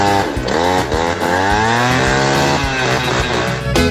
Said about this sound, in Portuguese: Tô andando de jet ski, escuta o barulho aí, ó.